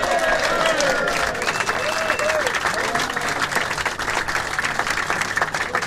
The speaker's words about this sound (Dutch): Een groot applaus.